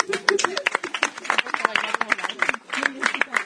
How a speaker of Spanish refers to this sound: Un aplauso para ellas.